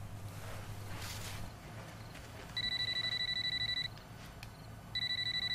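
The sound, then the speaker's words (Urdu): A telephone rings in two electronic bursts, a steady high-pitched trilling tone that stops, pauses for about a second, then starts again, over a low background hum. “تم جاؤ دروازہ کھولو، میں فون اٹھاتی ہوں”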